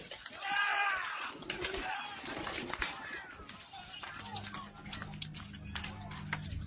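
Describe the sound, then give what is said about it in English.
Pigeons kept for sale coo and flutter their wings amid a busy, crowded marketplace bustle, with the bird sounds loudest at the start and a low steady drone settling in toward the end. “He ordered those who sold pigeons.”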